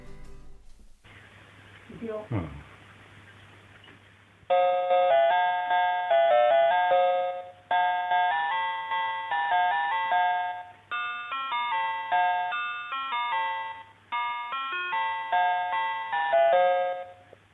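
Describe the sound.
A home intercom doorbell plays a long, bright melodic chime tune, a series of clear ringing notes in repeating phrases, loud and close. A brief low rumble or voice-like sound comes before it starts.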